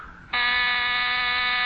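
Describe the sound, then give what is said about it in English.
A loud, steady electric door buzzer starts abruptly and drones on without a break, a harsh, rasping, sustained tone over faint background hum. “Someone's at the door.”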